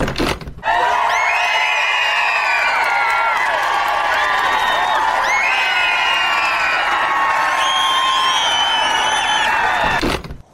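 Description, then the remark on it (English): A large crowd cheers and shouts together, with high whoops and whistles rising over a dense, steady roar of voices that holds for about ten seconds before cutting off. “On the tarmac, a crowd of podcast fans is waiting expectantly.”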